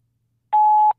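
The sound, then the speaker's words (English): A single steady electronic beep, the tone a voicemail answering machine gives before recording, rings clear and fairly loud for about half a second after a moment of silence, then cuts off abruptly. “So I can't answer you right now, but leave your name and number after the beep.”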